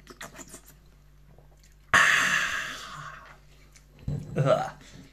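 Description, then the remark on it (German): A loud, airy slurp of a drink starts abruptly and trails off over about a second, followed shortly by a second, shorter slurping sip, with faint murmuring beforehand. “Ich nehme einen Schluck. Du musst schlürfen, sonst hört man das nicht.”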